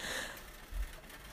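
Heavy rain pours down in a steady, wide hiss, fairly soft in level, with a brief low thump midway and no voices.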